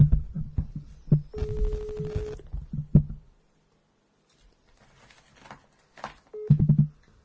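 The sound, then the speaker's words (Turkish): A steady electronic phone ringing tone sounds for about a second amid noisy background clatter as a call is redialed, falls quiet, then a second brief tone starts as the line seems to connect. “Tamam dur bir daha arayayım.”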